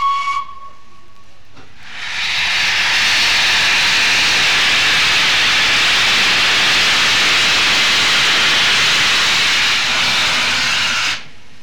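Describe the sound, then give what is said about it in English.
A faint tone opens, then the Flying Scotsman steam locomotive, backing onto the train at platform 10 of King's Cross station, London, lets out a long, loud, steady hiss of steam that holds for several seconds before cutting off abruptly. No one speaks. “and when everything was ready, Flying Scotsman pulled forward from the milk dock towards the tunnel mouth outside King's Cross station, and then backed from there onto the train on platform 10.”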